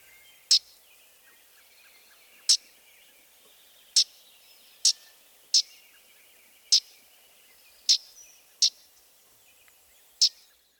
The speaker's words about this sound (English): The yellowthroat also has a loud, raspy call note.